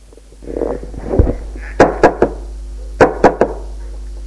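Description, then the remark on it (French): A woman knocks again on a door that has stayed closed: two sets of three firm, sharp knocks separated by a short pause, after some soft, low shuffling. No one speaks. “Une porte est restée fermée. Elle frappe encore une fois.”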